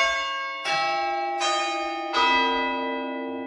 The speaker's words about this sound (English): One thing that has resisted the winds of change are the church bells. When they're ringing on a Tuesday night for practice, we're handing bells that were cast over 450 years ago. It's quite a thought, really.